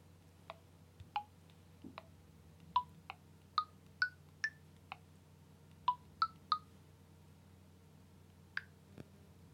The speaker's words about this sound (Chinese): 好的，我现在就给司机打电话。